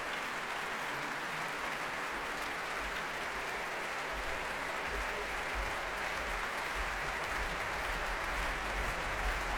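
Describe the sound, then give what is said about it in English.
A large concert audience in the arena of the Royal Albert Hall applauds in a steady, dense roar of clapping, with heavy low thuds of stomping feet pounding underneath throughout, not wanting to let conductor Valery Gergiev go. No one speaks. “You can hear the stomping. They don't want to let him go in the arena of the Royal Albert Hall, and I can understand why.”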